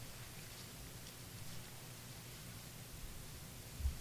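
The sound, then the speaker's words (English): A soft, continuous papery rustle of Bible pages being turned, faint and hissy with a slightly louder flutter near the end; no one speaks. “I like to hear pages turning.”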